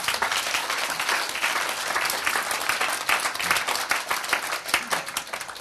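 A crowd applauds steadily for several seconds, dense overlapping claps at a sustained, fairly loud level with no talking.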